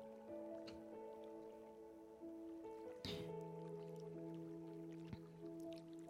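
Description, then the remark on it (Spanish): Quiet, steady water trickling like a small stream, running continuously beneath soft sustained tones, with one brief louder splash-like burst midway. “Y ese sonido que escucho de base, que es un sonido de agua, como un pequeño riachuelo, voy imaginando cómo va entrando en mi cabeza, va rozando, se va.”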